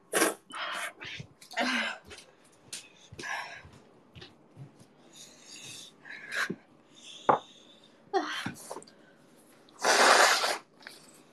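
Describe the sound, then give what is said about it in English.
Someone blows their nose during a livestream, with a string of short snorting, sniffly bursts followed by one long, loud, honking blow near the end. “I don't usually blow my nose in a stream or space, but I have a choice.”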